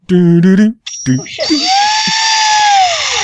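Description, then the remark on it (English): A brief vocal sound, then a high, steady mechanical whine like a dentist's drill spins up and holds for a couple of seconds, loud with a faint wavering tone. “The drill is one of the best sounds that you could ever use in a song.”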